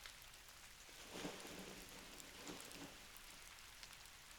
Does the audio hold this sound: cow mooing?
no